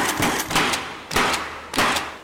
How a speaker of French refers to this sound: Ça, c'est une belle journée pour refaire son toit, hein? 8h15, 22 degrés, beau soleil, la cloueuse chante.